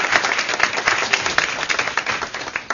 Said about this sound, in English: So I would like all of you to, we should all clap for their efforts,